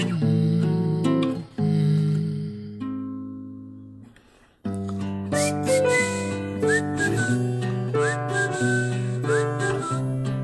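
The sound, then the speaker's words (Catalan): A person whistles a bright, sliding tune over a full instrumental backing of sustained chords, the whistled melody entering after a brief quiet dip and carrying clearly on top. “estem habituats a relacionar aquest xiulet amb el …”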